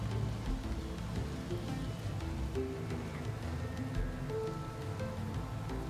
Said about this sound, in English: Come and sit with me by the window. Listen to the rain with me. I love listening to the rain. While we are sat here, cozy, everything is getting so wet outside. The sound of rain is so hypnotic, isn't it?